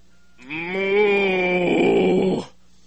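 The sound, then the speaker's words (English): A person's voice imitates a cow, holding one long, loud, drawn-out moo for about two seconds that turns slightly wavering toward the end before stopping abruptly. “So the first sheep gets mad and says to the second sheep, Dummy, sheep don't say moo.”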